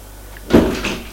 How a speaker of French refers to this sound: Arrivé au premier, il y a un petit couloir et deux portes qui donnent aux chambres des deux garçons. Il ne sait pas laquelle des deux est celle d'Eric. Il frappe à une porte et entre.